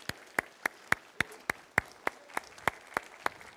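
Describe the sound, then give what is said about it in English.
An audience applauding with steady, evenly spaced claps, about thirteen sharp beats in a quick regular rhythm, moderately loud with no talking. “And I think it'd be good if, you're not doing it for applause, but I think it'd be good to affirm that you appreciate them and let them know how much you love them.”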